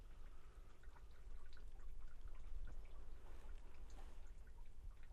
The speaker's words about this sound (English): And whatever magical thing darkness does to sound, it makes the sounds more substantial. I can hear the drops of rain actually just dripping from the trees.